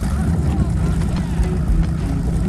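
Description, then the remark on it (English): A motorboat engine, on a boat just untied from its moorings and headed for Spivey Point, churns with a loud, deep, continuous rumble, a rough throbbing texture and a thin whine above it, holding steady throughout. “Clint and Dan frantically untie their boat from its moorings. Start us up. I'll push us out.”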